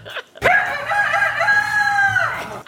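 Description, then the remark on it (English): A very tall man, about seven feet, who wears a Panama hat and has a cane, imitates a rooster's crow, one loud, sustained cock-a-doodle-doo call with a rising start and a long held, slightly wavering tone that tapers off at the end. “Can you believe that's a human being making that rooster call?”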